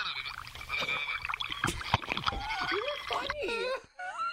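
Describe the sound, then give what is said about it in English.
Bubbles blown through a straw into a cup, a run of wet, bursting gurgles, mixed with a child's voice making wavering, sliding sounds over the top. “No, my friend's blowing the bubbles in a straw in a cup.”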